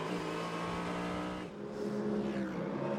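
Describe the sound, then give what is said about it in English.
The race leader's car crosses the line, its engine screaming loudly, the high whine dropping in pitch midway as it blasts past, leaving a lower roar trailing behind. “Cross the line for the leader.”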